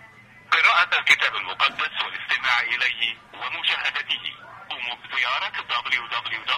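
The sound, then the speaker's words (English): A voice from a phone call on speakerphone comes through the phone speaker, thin and band-limited with a boxy, tinny tone, talking steadily for several seconds after a brief quiet start. “Come on, I'll call one. And put your phone on speaker.”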